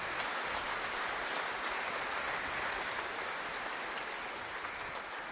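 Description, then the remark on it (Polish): An audience in Poland claps steadily to welcome guests, a dense, even wash of many hands that stays loud for about five seconds and eases slightly at the very end, with no voices over it. “Wielkie brawa.”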